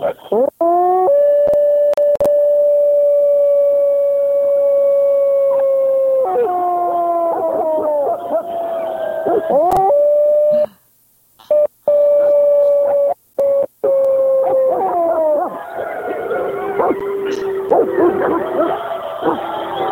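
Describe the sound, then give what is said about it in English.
A pack of wolves howls together on a full-moon night, long sustained wavering tones overlapping at different pitches, loud, carrying on nearly continuously with only a brief break midway. “So, all right, I'm going to go over here by my favorite pack, and I'm going to just give us a howl.”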